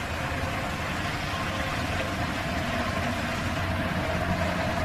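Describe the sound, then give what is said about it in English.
A steady, unbroken whoosh of road traffic fills the scene, a broad rumbling wash of engines and tires with no pauses, no voices, and no distinct individual vehicles standing out. “It's funny that at a place like this, the sound of the traffic probably never stops.”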